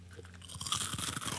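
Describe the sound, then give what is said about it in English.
Loud crunching of a Flaming Hot Cheeto being bitten and chewed, a dense burst of crackly crunches lasting about a second with no talking. “I'm going Cheeto first.”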